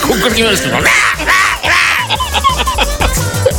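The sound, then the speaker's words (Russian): A voice mimics a peacock's scream with a run of harsh, strained, high-pitched wails, loud, rising and breaking in several rapid bursts. “Еще орет он так мерзко, этот павлин.”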